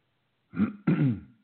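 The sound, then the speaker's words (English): A man with a cough clears his throat twice in quick succession, two short rough bursts with a brief pause between them, and no talking. “excuse me, please, I got a cough.”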